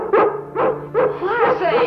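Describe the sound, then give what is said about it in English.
A dog barks four or five times in quick succession, fairly loud, the later barks drawn out into whiny, yelping tones. “Oh, stop your barking.”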